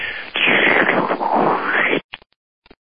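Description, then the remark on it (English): A voice imitates water pouring into a glass with a sustained, hissy rushing noise lasting about two seconds, then a few short clicks and breathy bursts trail off. “Now, pouring into a glass.”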